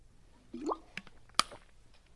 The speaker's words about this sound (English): Let me just get a drink of water.